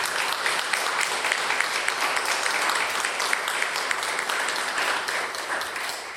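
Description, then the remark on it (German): A church audience applauds steadily, many hands clapping in a dense, even roar of bright claps that holds its level throughout and fades slightly at the end, with no voices on top. “Und die Gemeinde darf auch mit einem Applaus machen.”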